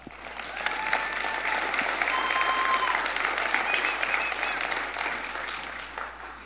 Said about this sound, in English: Yes, currently serving on the youth team. Yeah, it's one more round of applause.